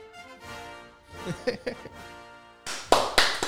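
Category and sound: crowd, enthusiastic applause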